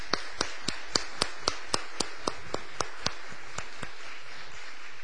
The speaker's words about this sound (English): And I want you to welcome him now with a round of applause to this new duty.